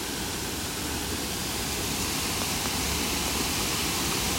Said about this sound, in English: But it's probably a good job that they've got this metal railing here, as it is a very dangerous spot and could quite easily get swept away, drawn in by the water careering down off the top of the rock.